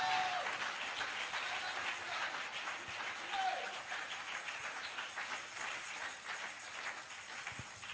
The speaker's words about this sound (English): Oh, clap your hands in the house of God.